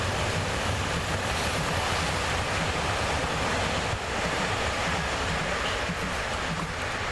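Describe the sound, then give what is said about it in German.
A subway (U-Bahn) train roars past, a dense, steady rumble with hissing, rushing noise that stays loud and unbroken for several seconds, with no voices. “By the way, behold, U-Bahn.”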